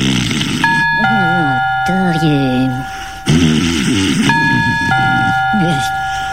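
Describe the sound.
A doorbell chimes a two-note ding-dong twice, a few seconds apart, clear and fairly loud, while people keep talking underneath.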